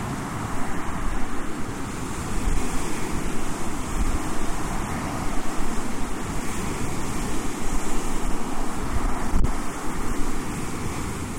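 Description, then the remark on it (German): Ocean waves wash and break steadily on a shore, a dense continuous roar of surf with wind rushing over the microphone, no voices present. “Toll, oder? Ich möchte am Meer wohnen.”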